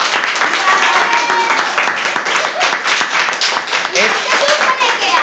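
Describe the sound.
A crowd claps steadily for several seconds, a dense, loud wash of many hands with a few cheers and voices mixed in underneath.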